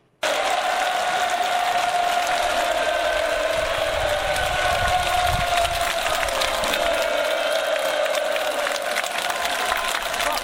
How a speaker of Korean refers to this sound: 함성 소리 때문에 잘 들릴 수 있는지 모르겠지만 현장에서 직접 녹음한 음성입니다. 들려드리겠습니다.